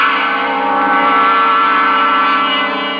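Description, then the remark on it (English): An antique shop's door bell rings with a bright, sustained metallic tone that hangs steadily for a few seconds, loud, with no voices around it, announcing a customer. “By the following morning, I felt almost myself as the bell to my antique establishment announced one of my favorite and most lucrative customers,”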